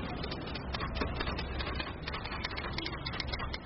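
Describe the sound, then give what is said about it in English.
Rapid, uneven clacking of typewriter keys in Myanmar, where typists write official documents for people, goes on without pause over a steady, low rumble of bustling crowds and roaring traffic, the sharp mechanical taps coming in quick bursts. “Amongst a symphony of bustling crowds and roaring traffic, you can hear a familiar tapping noise that might sound like it's from another era.”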